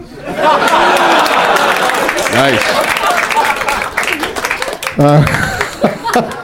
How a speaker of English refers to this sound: Nice. I don't know why they got a round of applause. Because I said it with such confidence. So skillfully done.